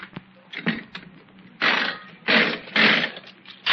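A nickel slot machine clicks and whirs as it's played, then pays out a 20-nickel win, not the jackpot, in several loud, jangling bursts of coins clattering into the tray.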